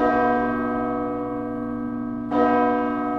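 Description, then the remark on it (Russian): A church bell rings out in frosty weather with a full, resonant tone that hangs in the air, then is struck again, its rich hum swelling back up. No voices, just the bell. “Колокол звучит на морозе полно, объемно, и звук его долго не затухает.”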